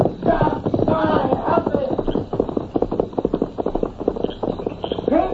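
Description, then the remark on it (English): Horse hooves clip-clop in a quick, steady rhythm as a rider leaves on horseback, continuing throughout, with a few brief voice-like calls rising over the hoofbeats. “Get on that horse.”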